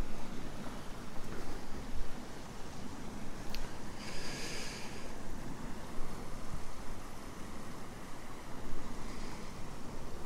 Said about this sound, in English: You always get a sense of length with the sound of an airplane. As though it's dragging 2 miles of its sound behind it. This kind of roar that you can't see that follows it along, it's always following it.